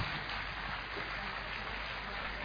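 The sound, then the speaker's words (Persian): An audience claps steadily throughout, applauding the opportunity-seeker and supporter participants, a dense, even patter of many hands that keeps up without pause or fading for the whole stretch. “همه دوستان فرصتجو و حامی رو تشویق کنیم.”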